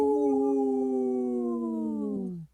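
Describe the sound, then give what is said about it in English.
Two people howl together in imitation of wolves, one long sustained wail that slowly sinks in pitch for about two and a half seconds before cutting off abruptly, loud. “I only heard two voices there. But hey, we are here with two howls.”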